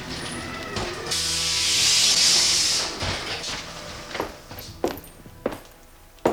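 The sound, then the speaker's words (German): A roller coaster car rolls back through a dark gate to its starting point with a loud, sustained hiss of air brakes, then settles with a series of sharp mechanical clunks and knocks. No one speaks. “Soeben kam einer der Wagen durch ein dunkles Tor zurück an den Startpunkt gerollt.”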